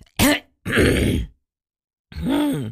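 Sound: throat clearing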